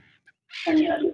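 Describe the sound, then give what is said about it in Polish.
Harsh, raucous gull squawks burst in loudly after a brief quiet moment, a dense overlapping outburst of screechy calls that carries to the end. “Jakby pan tak na chwilkę przyciszył radioodbiornik, to będzie nam prościej usłyszeć także te rozkrzeczane mewy.”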